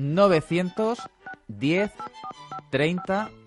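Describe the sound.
A string of short telephone keypad beeps, each a steady dual tone, sounds in quick irregular succession between bursts of a nearby voice speaking.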